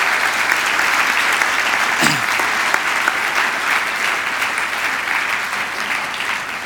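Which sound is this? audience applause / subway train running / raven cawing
audience applause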